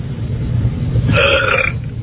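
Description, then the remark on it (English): A single loud, drawn-out burp erupts partway through, lasting around half a second over a steady low background rumble, with no talking. “I want to find the pig that's burping.”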